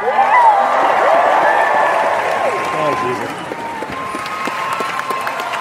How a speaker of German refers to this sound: Da kam sie für einen Talk in der größten Halle, die Schlange war unfassbar lang und als sie auf die Bühne kam, brach wirklich der Jubel los.